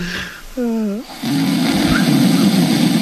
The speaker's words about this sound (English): That's a real live Michael Felger snore. Oh, that's Felger snoring.